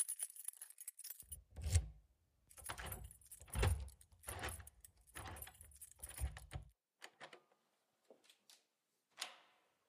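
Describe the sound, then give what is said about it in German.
A key jangles and scrapes as it turns twice in a lock at 7 in the evening, a run of metallic bursts with dull knocks underneath, followed by a few small, sparse clicks as it settles. “Es war 7 Uhr abends und der Schlüssel drehte sich 2-mal im Schloss.”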